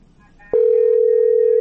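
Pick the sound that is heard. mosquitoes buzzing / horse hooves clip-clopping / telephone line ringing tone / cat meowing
telephone line ringing tone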